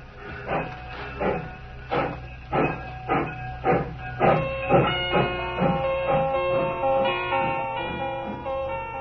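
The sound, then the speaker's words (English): A steam train pulls away while a man stands on the embankment, its heavy chuffs starting slow and quickening in a steady rhythm, then blending into a continuous hissing rumble with a tonal whine as it gathers speed. “I stood there on the embankment as the train pulled away.”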